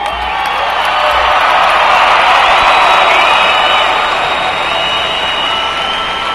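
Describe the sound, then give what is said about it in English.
Friends and family of Iowa National Guard soldiers returning from a 9-month deployment to Afghanistan erupt in loud, sustained applause and cheering in the Unidome as the unit is dismissed, a dense wash of clapping with scattered whoops and shouts rising over it, steady for several seconds. “Friends and family members of the soldiers filled one side of the Unidome and erupted in applause when the unit was dismissed.”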